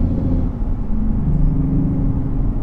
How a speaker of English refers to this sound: Just get past that dump truck.